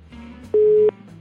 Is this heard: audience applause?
no